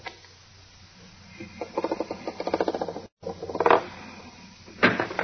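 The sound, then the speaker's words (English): A heavy steel vault door, set by its time clock, grinds open: a run of rapid mechanical clicks and rattles, then two harsh creaking scrapes, with no one speaking. “And then set the clock at 2 hours like this. Door should open.”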